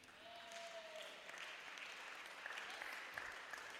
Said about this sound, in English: Oh, your clapping is envious.